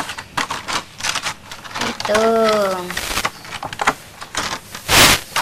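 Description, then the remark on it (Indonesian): Crinkly plastic rustling and scattered clicks as items are counted and dropped into a plastic bag, with a louder crackle near the end and a voice speaking briefly over it. “Masukin kanan plastik.”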